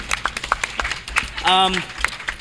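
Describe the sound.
A quick burst of clapping, with sharp, uneven claps repeating over a couple of seconds and a brief voiced cheer rising midway through.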